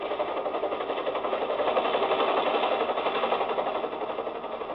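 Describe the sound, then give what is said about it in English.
A helicopter coming into San Borja at night and landing on the other side of the mines: steady, rapid rotor chop and engine drone, a dense mechanical throb that swells a little louder in the middle and holds. No voices. “Anybody who comes into San Borja in a helicopter at night is a pretty good bet to be important.”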